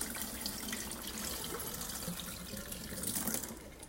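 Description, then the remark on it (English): Starchy rinse water from rinsing rice is poured out of a pan, splashing steadily for several seconds in a continuous rushing stream, with no voices. “So I'm going to drain that out.”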